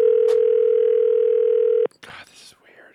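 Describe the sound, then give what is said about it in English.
A steady, loud telephone dial tone hums for nearly two seconds as someone starts calling a list of phone numbers, then cuts off abruptly, followed by brief muffled clicks and a burst of faint voices. “And so I made a list of all those phone numbers, and I was like, I'm just going to start calling.”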